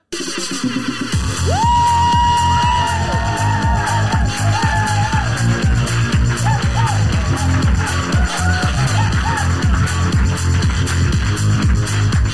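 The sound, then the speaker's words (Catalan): A crowd applauds loudly and steadily for about twelve seconds, with dense overlapping claps, scattered cheers and a few whistles rising above the noise. “He sentit aquests aplaudiments!”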